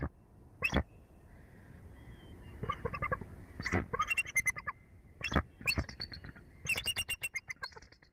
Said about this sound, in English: They're bald eagles. Jackie and Shadow are bald eagles who live 14 stories at the top of a Jeffrey pine tree overlooking Big Bear Lake in Southern California, which isn't too far from where I live in LA.